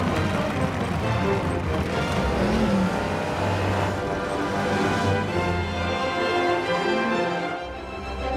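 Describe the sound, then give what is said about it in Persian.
A loud, continuous roar of racing car engines fills the scene during Cruz Ramirez's first race, replacing McQueen, with shifting engine pitches and cars whooshing past amid dense, busy track noise throughout. “ماشین مسابقه که جای مکوئین رو گرفته اسمش کروز رامیرزه و اینم اولین مسابقه عمرشه.”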